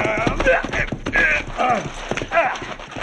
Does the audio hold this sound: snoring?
no